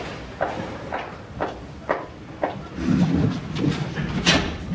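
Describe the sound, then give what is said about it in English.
Five steady footsteps as a woman crosses a hard classroom floor at an even walking pace, followed by a jumble of handling noises and a sharp click as the classroom door is reached and opened. “With a sign to Kevin, she heads for the door.”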